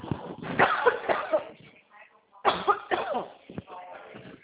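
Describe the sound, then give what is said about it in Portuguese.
A person coughs in two harsh fits about two seconds apart, each a cluster of rough bursts that trails off into throaty rasping. “Ai, desculpa, tava tossindo.”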